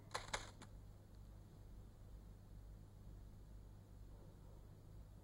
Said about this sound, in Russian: Ну, как вы тут? Справляетесь с моим почерком? Ну, конечно. Я же не первый раз ваш материал печатаю. Я привыкла.